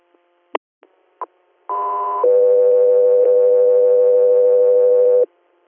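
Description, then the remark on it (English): A few short clicks, then a loud two-tone radio dispatch alert: a brief higher steady tone followed by a long, lower sustained tone lasting about three seconds, with no talking. “stand by for tones.”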